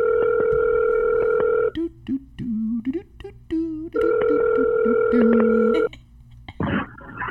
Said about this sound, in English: Let's make a phone call. All right. I don't remember what his question is, but let's just call and see if he even answers. Guys, we're calling people. We got a phone number now. Oh, shit. It's working. Let's see what happens. See if he answers.